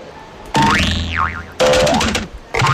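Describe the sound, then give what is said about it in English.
A loud cartoon boing of a bounce as someone jumping to dive into water bounces too high, head going through the ceiling: a springy twang that swoops up in pitch and wobbles, followed by two more boings in quick succession. “I bounced too high.”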